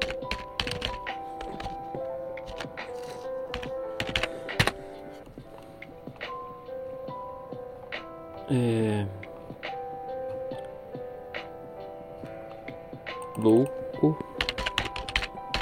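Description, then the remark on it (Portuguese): Rapid keyboard typing with irregular clicks and taps, with mistyped words, fairly clear, over a steady background hum with a couple of brief rising tonal sweeps. “O teclado doidão.”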